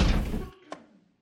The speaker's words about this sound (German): Die Mauer ist umgefallen.